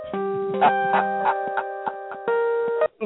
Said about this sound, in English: That was Ebony's phone going on.